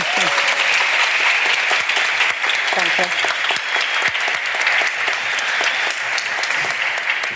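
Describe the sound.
Steady, loud applause from an audience for a German rap artist fills the whole clip, a dense wash of many hands clapping without pause, with a brief spoken word of thanks over it near the start.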